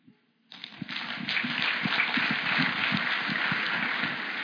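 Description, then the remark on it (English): After a brief quiet moment, a crowd breaks into steady applause, many hands clapping at once in a dense, even wash of sound that holds at the same level to the end. “Okay, if we can maybe not applause after each person”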